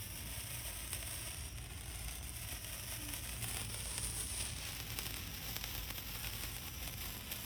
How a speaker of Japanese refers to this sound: パチパチしてます。なんかたまにこういうのケーキに刺さって誕生日のとかでありますよね。なんかデザートの時に刺さってる花火にちょっと似てます。これ結構長いやつですね。